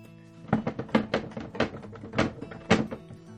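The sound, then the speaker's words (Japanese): The small door of a suggestion box at an airport is rattled and tugged repeatedly, producing a series of irregular clunks and thuds as it refuses to open, fairly loud with no voices. “扉とかあるんじゃない？そこに扉が。”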